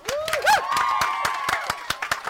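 A short round of applause for a guest on a Phoenix Radio broadcast live from St. Mary's College, Ipswich: sharp, irregular handclaps for a couple of seconds, with rising and falling whistles or whoops riding over them.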